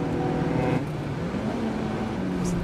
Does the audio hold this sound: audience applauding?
no